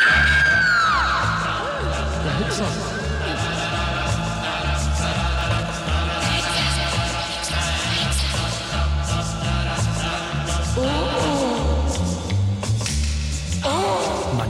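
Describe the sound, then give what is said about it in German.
Loud, dense film music with a pulsing low rhythm, overlaid by shrill screams and yelling voices that rise and fall, plus occasional bangs, all sustained at high volume throughout. “bei den Edgar Wallace-Filmen zum Beispiel mit Schreien und Schüssen und allem Möglichen”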